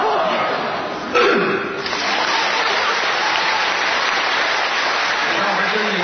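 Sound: audience applause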